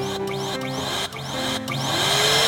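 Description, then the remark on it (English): A giant vacuum cleaner roars steadily and loudly, its motor whine wavering with a few brief dips and swoops in pitch. No one speaks over it. “And now they're in this giant vacuum cleaner.”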